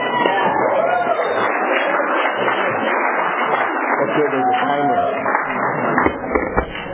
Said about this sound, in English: Okay, everybody. Let's give our featured speaker a round of applause.